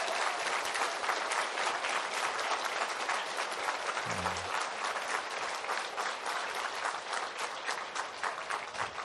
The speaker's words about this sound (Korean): 우리 어린 자녀들을 위해서 다시 한번 박수 쳐주시기 바랍니다.